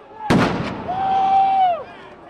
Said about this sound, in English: Police used what they call blast balls. That's a kind of explosive that also contains pepper spray.